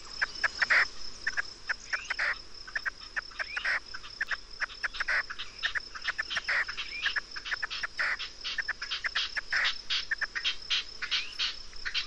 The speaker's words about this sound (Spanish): Estamos en Doñana, en el Coto del Rey, en la límite norte del Parque de Doñana, y aquí ajea y corechea una perdiz y otra le responderá enseguida.